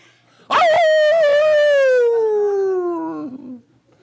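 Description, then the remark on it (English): A person's voice imitates a wolf howling: one loud, sustained howl lasting about three seconds, starting high and sliding slowly downward in pitch before cutting off, with no other sounds around it. “And about midnight, he's howling like a wolf.”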